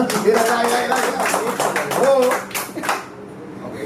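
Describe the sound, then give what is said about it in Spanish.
Scattered audience applause for audience members who have student loans, a dense patter of claps that swells and then thins out toward the end, with people talking and laughing over it. “Tiene, un aplauso a los que tienen préstamo estudiantil.”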